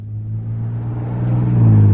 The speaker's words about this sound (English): Driving cars, various sound effects.